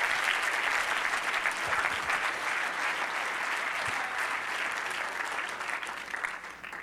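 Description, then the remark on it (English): An audience claps hands unto God in the morning, a sustained, dense burst of applause, steady and loud throughout with no voices standing out, tapering only slightly at the end. “Somebody clap your hands unto God this morning. Come on, somebody clap.”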